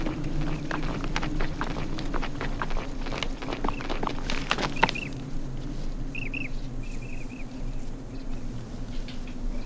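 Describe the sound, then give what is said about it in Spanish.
A donkey's hooves clop in an uneven walking rhythm as it goes up a hill, fairly loud for the first half, then fade out over a steady low rumble while faint chirps appear. “¡Arre, burro!”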